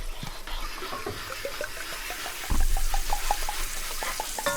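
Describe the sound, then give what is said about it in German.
Steady sizzling hiss from a hot pan of chicken cubes with water poured in, with quick, repeated light scraping taps as a fork stirs the mixture into a sauce, plus a brief louder clatter midway; moderately loud, no voices. “Und jetzt rührt man das nämlich hier schön mit der Gabel nochmal durch, bis das muss halt, wenn du die Gabel hochnimmst, muss das von selber laufen, wie so eine Soße halt.”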